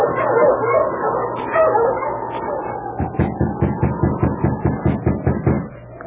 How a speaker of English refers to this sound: Morning at an isolated spot surrounded by birch trees, a driver halted his team of dogs.